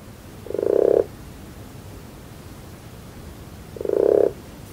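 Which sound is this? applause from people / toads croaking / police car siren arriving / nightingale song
toads croaking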